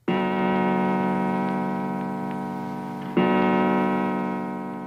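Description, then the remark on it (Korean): A clock strikes seven o'clock in the morning, with two loud, resonant strikes heard a few seconds apart, each tone ringing on and slowly fading, with no voices. “7시를 치는 종소리가 들렸다.”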